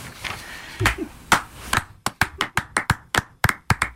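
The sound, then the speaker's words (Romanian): Audience applause, a dense wash of clapping at first that thins into a run of distinct, sharp claps in a fairly steady rhythm, moderately loud with no voices over it. “Mulțumim asistenței pentru aplauze, doamnelor, domnișoarelor și domnilor,”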